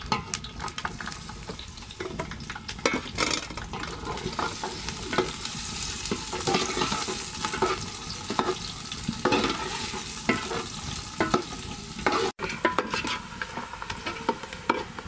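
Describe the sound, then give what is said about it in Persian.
Onions fry in oil in a hot pan over high heat with a steady, dense, crackling hiss, broken by frequent scraping strokes as they are stirred. No one speaks. “خب آتیش تیزه، آلی هم میندازم پیازه که باز ترخ همه دارم.”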